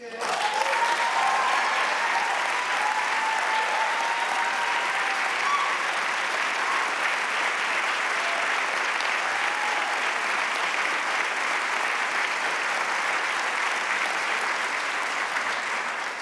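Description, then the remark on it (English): Sustained audience applause during a speech about Wisconsin's agricultural exports, a dense, steady wash of clapping that holds at an even loudness for about sixteen seconds, with a few faint cheers or whoops near the start and no talking. “Thanks for the applause I get to drink.”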